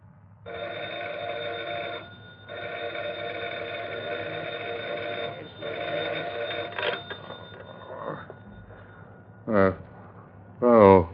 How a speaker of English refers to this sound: At dawn the next morning, the phone rings at McCurdy's home.